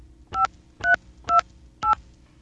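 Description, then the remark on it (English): Four crisp touch-tone keypad beeps as a phone number is dialed after getting a dial tone, calling a collect-call service, each a short dual-pitched tone in steady succession with brief gaps between, clear over a faint low hum. “And some of you might be able to make out the phone number I'm calling.”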